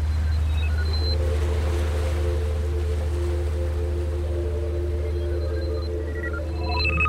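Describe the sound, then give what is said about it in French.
A rescue boat's engine drones steadily and loudly at sea at night off the coast near Tripoli, with a deep rumbling hum and sustained tonal whine over a wash of wind and water noise, without pause. “Il y a le projecteur du bateau qui scrute la nuit.”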